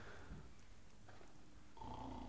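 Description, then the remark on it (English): A low, rough snore rumbles steadily throughout, swelling slightly louder and buzzier toward the end, with no one talking over it. “Is that snoring?”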